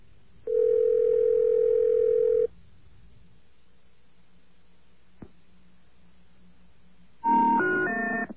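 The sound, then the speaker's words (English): A telephone line to the 2600 Voice BBS rings once with a steady, buzzy two-second tone, then goes quiet until a single click as the line picks up, followed by a short run of rising electronic tones. “And many people are confused by the way the phone is picked up, so don't be confused when you hear this.”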